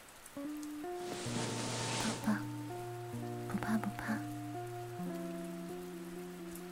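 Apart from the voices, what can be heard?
rain falling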